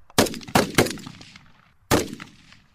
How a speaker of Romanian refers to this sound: au fost în poligon la prima lor tragere